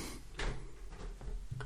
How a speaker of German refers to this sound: Jette, kannst du die Tür wieder zumachen, bitte?